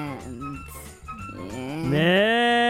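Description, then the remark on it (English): A cow moos loudly, with a low, wavering call that swells into a long, rising bellow before cutting off. “They even got their f***ing cow back.”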